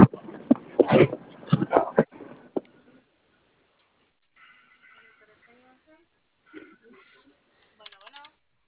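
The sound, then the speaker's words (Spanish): A series of quick clicks as the code 0852 is typed again on a door lock keypad, followed by a few short, faint electronic beeps spaced out over several seconds. “A ver, vuelve a meter la de teclado. 0852.”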